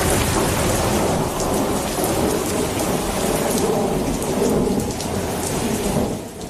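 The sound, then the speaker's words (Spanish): A thunderstorm: steady heavy rain pours down throughout while deep thunder rumbles and rolls underneath, loud, with no voices. “Igual se les había olvidado, pero así es como suena una tormenta.”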